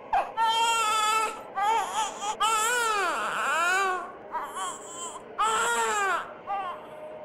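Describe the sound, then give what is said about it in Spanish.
A baby cries on the floor above at about 1 in the morning, in a series of high, strained wails, each rising and falling in pitch, with brief gasping pauses between bursts. The crying is loud and continuous, with no talking. “Había escuchado el llanto de un bebé en el piso de arriba.”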